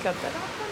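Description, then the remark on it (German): Steady, rushing water noise of a dolphin pool in a dolphinarium, with faint indistinct voices murmuring in the background throughout a brief moment. “Jetzt sind wir im Delfinarium und es ist gar nicht so gut.”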